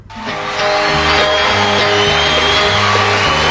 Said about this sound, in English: The crew screaming for me. Yeah. Yeah. The crew's that excited.